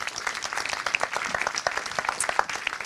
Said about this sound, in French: Bienvenue, on peut vous applaudir. Venez nous rejoindre.